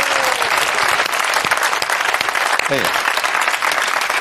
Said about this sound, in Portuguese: Aplaudir.